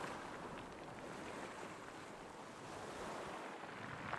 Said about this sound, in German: Ich weiß nicht, ob es das Rauschen einer Welle war, aber ich schwöre, jemand hat, ja, an mein Ohr geflüstert.